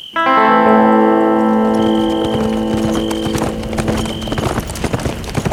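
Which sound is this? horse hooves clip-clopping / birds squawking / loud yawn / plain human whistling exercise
horse hooves clip-clopping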